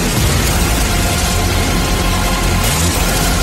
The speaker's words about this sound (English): We got a thousand explosions for you and yours!